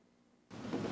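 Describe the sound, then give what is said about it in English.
After a brief quiet moment, a heavy rain and thunder sound effect bursts in abruptly, filling the rest of the second with a loud, dense rushing roar and no voices. “Let it rain for a while, Kyle.”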